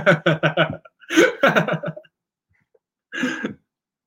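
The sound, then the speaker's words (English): An abrupt sneeze bursts out after a quiet gap, preceded by a flurry of short, choppy breathy vocal bursts that sound like coughing or throat clearing. “Bless you.”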